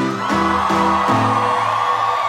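A loud crowd screams and whoops continuously, a dense wall of high-pitched cheering with a few voices rising above the roar, filling the whole moment without pause.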